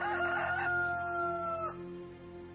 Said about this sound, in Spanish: Negó Pedro otra vez, y enseguida cantó el gallo.